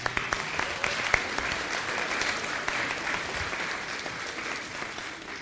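A church audience applauds steadily to recognize two long-serving members, a dense wash of many hands clapping at an even, sustained level for several seconds without a break, with no voices rising above it.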